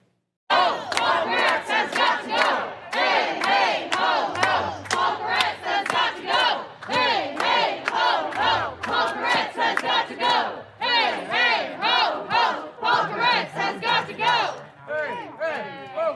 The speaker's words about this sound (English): What did the residents of Los Angeles, some of them, do? They went to his house and yelled at him and threw stuff at his house. Take a look.